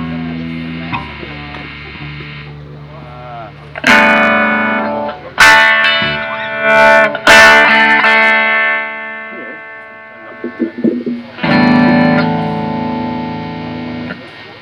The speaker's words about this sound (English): I just gotta turn off this reverb thing because it's really messing me up here.